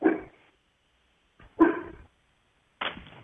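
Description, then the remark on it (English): A dog barks three times in sharp, separate bursts, each loud, with short silent pauses in between and no one talking. “I'm dog sitting. I'm going to have to mute a lot.”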